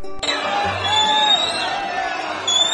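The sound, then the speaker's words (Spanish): A large crowd in Cochabamba, Bolivia, roars steadily in protest, with sharp whistles cutting through the dense, loud noise throughout; the jeering begins abruptly and never lets up. The crowd boos, whistles and calls 'liar' at a United Nations spokeswoman reading a letter from Secretary-General Ban Ki-moon. “Abucheos, chiflidos y el calificativo de mentirosa escuchó durante unos minutos la enviada en nombre de las Naciones Unidas.”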